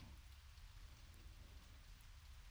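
Steady rain falls without a break, a dense even hiss with a low rumbling undertone and scattered drops pattering, no voices present.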